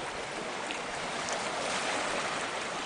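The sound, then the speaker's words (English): Water rushes steadily through a very deep part of a creek with a dense, continuous hiss and no break in its flow. It is fairly loud, and no one speaks over it. “The creek is very deep right in here too.”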